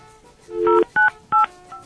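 Phone keypad tones beep as a phone number is dialed again after a call went to voicemail, three distinct dual-tone presses in an uneven rhythm, clear over a faint steady background hum.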